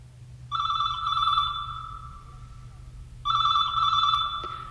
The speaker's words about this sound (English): ask not for whom the phone rings. Answer it and find out.